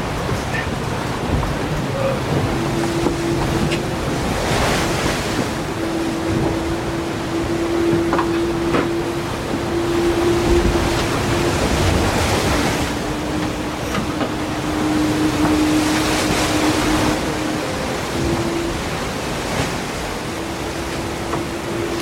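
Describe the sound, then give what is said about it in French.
A boat pushing through sea waves: a steady rush of water with a low droning hum underneath, swelling and easing every few seconds, with no clear talking. “Vas-y, relance un peu le bateau.”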